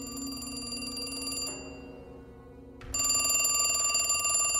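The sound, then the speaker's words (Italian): A telephone rings loudly with a bright, metallic bell tone for a call from the public prosecutor: one ring, a short pause of near-quiet, then a second ring starting up. No one speaks. “una telefonata terribile da parte del pubblico ministero”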